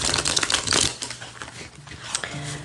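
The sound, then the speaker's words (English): Classic tarot cards being shuffled for a reading. A rapid papery riffle starts loud and dense, then breaks into softer scattered flicks and taps, with a faint low hum underneath and no talking. “Alright, so let's get one more shuffle.”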